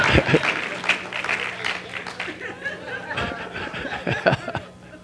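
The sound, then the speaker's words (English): An audience claps in a dense, steady patter of many hands, loudest at the start and easing off toward the end, with scattered chuckles and murmured voices mixed in. “Come on, we're getting better clap than that. Some of y'all scared to clap?”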